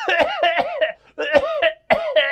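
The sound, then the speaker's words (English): Three quick clusters of loud coughs, each hack ending in a strained, voiced, almost wheezy tone, separated by brief pauses. No one speaks. “Hey, can you tell me if this cough sounds weird?”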